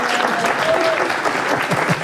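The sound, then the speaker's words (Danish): Audience applause fills the space, a steady dense clatter of many hands clapping at once, fairly loud and continuous for the whole stretch, with a faint tonal whistle briefly rising above it. “jeg vil egentlig gerne lige høre publikum også nu.”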